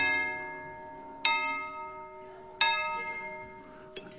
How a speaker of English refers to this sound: And I walked up to the front door and I rang the bell.